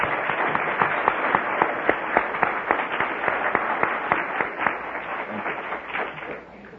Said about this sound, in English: that's tremendous. Let's give her a clap. That's very well done.